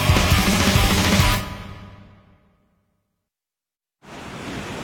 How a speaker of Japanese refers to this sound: 私、広瀬アリスは今、海に来ています。風が気持ちいい。実はここも、戸田建設の現場。風力発電を、なんと海に浮かべたんです。日本初なんですって。